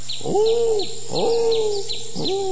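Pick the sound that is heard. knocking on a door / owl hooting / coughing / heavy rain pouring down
owl hooting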